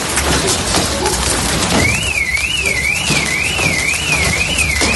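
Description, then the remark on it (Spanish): A dense, loud clatter of hail pounds down nonstop during a heavy hailstorm in La Bisbal d'Empordà, Girona, Spain, at about 7:30 in the evening, and partway through a car alarm set off by the hail starts up, its warbling tone rising and falling steadily over the storm's roar. “Los golpes del granizo incluso hacían saltar las alarmas de los coches, que quedaban desde luego con cristales destrozados y abolladuras.”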